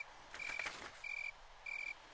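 Three evenly spaced cricket chirps, recorded by the Cornell Laboratory of Ornithology, each a short, shrill, high-pitched trill lasting about a quarter second, rising from a soft hiss with no voices present.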